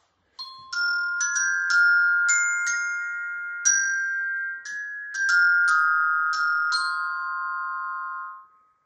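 A glockenspiel plays a slow, bright melody of about a dozen struck metal notes, each ringing out and overlapping with long shimmering sustain, clear with no voices.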